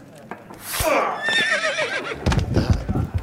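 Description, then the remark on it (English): A horse lets out one loud, shrill whinny that quavers and falls in pitch over about a second, followed by rougher, lower snorting and shuffling sounds. “You're clearly an evil horse.”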